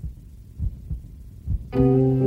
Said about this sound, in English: The heartbeat is the baby.